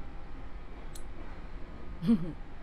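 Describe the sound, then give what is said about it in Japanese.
A conductor's old-style ticket punch clips a passenger's ticket and express ticket on an old train, giving two short, crisp metallic snaps about a second apart against a low rumbling background, with a brief murmur of voice near the second snap. “こんなハサミなんて今時なかなか見ないでしょ。”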